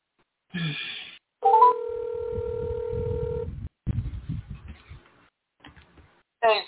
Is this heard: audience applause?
no